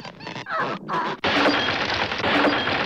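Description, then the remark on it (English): A wooden birdhouse is violently shaken as Snoopy, his nose stuck in its entrance hole, tries to free himself, rattling and cracking in loud bursts while the furniture and Woodstock inside are shaken around, with a brief lull before a sustained burst of harsh clattering and splintering noise. “As he tries to free himself, the furniture and Woodstock are violently shaken around.”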